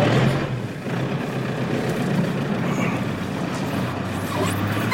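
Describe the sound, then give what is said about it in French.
The engine of a 30-year-old truck used for carrying narcissus flowers rumbles steadily for the whole stretch, fairly loud, heard from inside the truck, with no one speaking. “Il est pas jeune votre camion? Il a 30 ans.”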